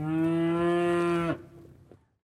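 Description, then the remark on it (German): A single loud, sustained cow moo lasting just over a second, rich and harmonic, then breaking off into a brief rough tail and quiet ambience inside a cowshed that was completely renovated and modernized this year. “So, das ist unser Kuhstall. Kommen Sie bitte rein, bitte.”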